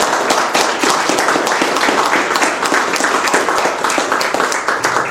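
An audience breaks into sustained applause, dense overlapping claps forming a steady, loud wash of noise for several seconds without any talking.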